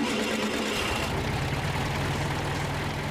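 An air-cooled Volkswagen Beetle engine idles steadily up close, a continuous low rumbling putter with a rough, even rhythm and no voices.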